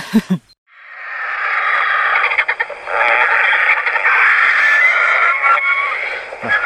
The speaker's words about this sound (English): you have on your telephone some recordings of the griffon vulture